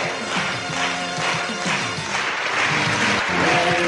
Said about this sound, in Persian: نگاره استاد بیوک میرزایی، صدای تشویق حضار و رونمایی از این نگاره زیبا.